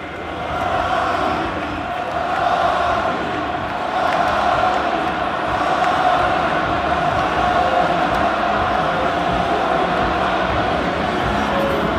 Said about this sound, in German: Ja, ihr hört es, auf Bestellung quasi skandiert das Camp Nou Xavis Namen. Also der Barcelonismo ist ein bisschen wiederbelebt worden.